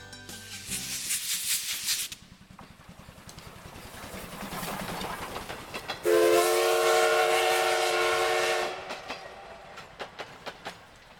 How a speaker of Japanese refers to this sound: 今回の放送は蒸気機関車の汽笛を合図に始まりましたが